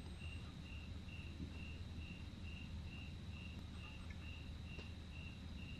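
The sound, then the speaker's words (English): Crickets chirp in a steady, evenly spaced rhythm of short pulses, fairly faint, over a low constant rumble of distant traffic, with no voices. “There are all kinds of things you could focus on right now. The sound of the crickets, the distant sound of the traffic.”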